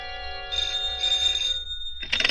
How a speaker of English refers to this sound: At 8, my phone rang.